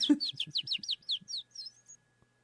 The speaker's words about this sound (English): And what is the little bird? Well, actually, that one, if you were to go through all the birds and listen in and try and figure it out, that one probably sounds the closest to a canary.